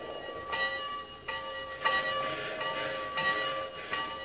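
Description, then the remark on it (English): A steam locomotive bell rings steadily, clanging about every half second or so, each strike ringing on into the next over a low mechanical rumble, with no voices. “Or the bell on the locomotive itself?”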